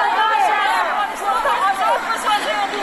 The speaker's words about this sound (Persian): راهپیمایی اعتراضی جمع کوچکی از زنان. آنان مقابل ارگ در چهارراهی زنبق گرد آمده و خواستهایشان را فریاد می‌زنند. شعار اصلیشان آزادسازی از ذخایر مسدود شده بانک افغانستان است.